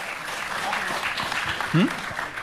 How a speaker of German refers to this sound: Applaus.